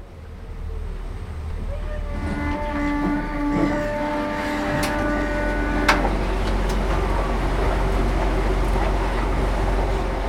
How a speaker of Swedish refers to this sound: Ombord på turbåten Lux på väg till stadshuset. Båten är förresten byggd i Karleby.